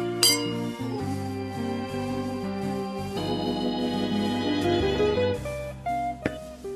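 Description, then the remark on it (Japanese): A bright, ringing clink of glasses touching in a Christmas toast to a red nose rings out near the start, then fades under steady, sustained background music; a second, fainter tap comes near the end. “メリークリスマスジェーン。君の赤い鼻に乾杯。”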